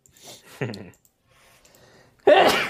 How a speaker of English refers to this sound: Big ol' sneeze. Bless you, sir.